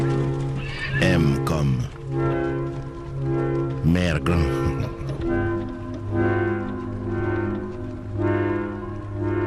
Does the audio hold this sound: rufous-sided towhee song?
no